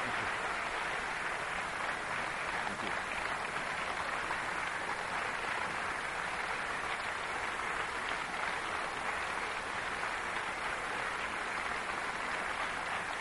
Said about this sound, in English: When people applaud a talk like this, it is very easy to me to fall into the temptation of thinking what a good speaker I am or what a good chap I am, but I am not.